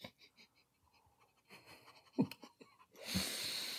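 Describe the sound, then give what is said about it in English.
Several short sniffs and breathy inhales come in scattered bursts, ending in a longer, louder airy sniff as people smell sweet wine during a taste test. No one speaks. “Y'all stop sniffing it. It's sweet wine.”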